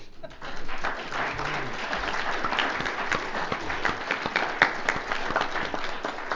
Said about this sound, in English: And I think they need a round of applause.